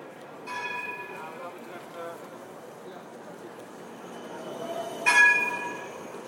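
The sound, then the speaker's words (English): A tram rumbles steadily, its bell clanging once at the start and again, louder and sharper, near the end, each strike ringing out briefly over the low rolling noise. “Oh, this sounds like a tram.”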